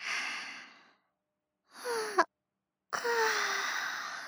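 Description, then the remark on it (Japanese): A big, drawn-out yawn: long breathy exhalations broken by brief pauses, the later ones carrying a low, sliding voiced groan. No one speaks. “大きいあくびね。”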